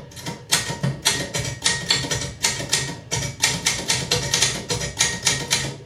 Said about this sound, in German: 1864, die Schreibmaschine von Peter Mitterhofer, das erste Modell.